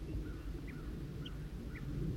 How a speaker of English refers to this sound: Somebody's giving alarm calls. Must be the male who's giving alarm calls.